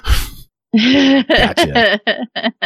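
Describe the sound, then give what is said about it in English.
A person lets out a sharp, breathy gasp on hearing that there is one last game to talk about, followed by a string of loud, wordless voiced exclamations in short, choppy bursts. “I heard you gasp when I said one last game to talk about.”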